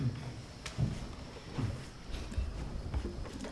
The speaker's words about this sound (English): I guess you can move the chair. Move it over here to the side.